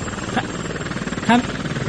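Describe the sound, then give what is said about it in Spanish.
A steady, dense drone of a traffic-reporting helicopter's rotor and engine noise fills the whole recording at moderate loudness, with two brief snatches of a voice cutting through it. “Javi, si nos oyes, toca la bocina del helicóptero, por favor.”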